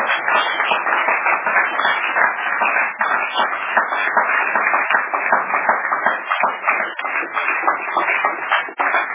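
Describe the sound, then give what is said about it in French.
Sustained crowd applause for a US-based newspaper that decided to put a woman's testimony on its front page, a dense steady patter of many hands clapping at even loudness for several seconds, with no voices standing out. “Applaudissez au moins pour le journal.”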